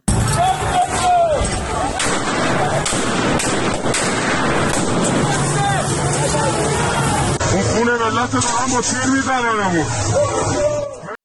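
Sharp cracks of gunfire from government forces shooting at protesters ring out repeatedly over a loud, hissing crowd din on Pirouzi Street in Tehran, Iran, on Thursday 18 Dey, followed by people shouting and wailing in the final seconds.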